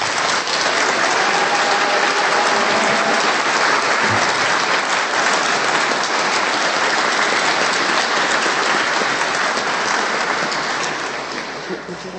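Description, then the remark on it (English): Sustained applause from a crowd at a state house, a dense steady patter of many hands clapping at full volume for about ten seconds before thinning slightly at the end. “So let's have a round of applause for Sarianne.”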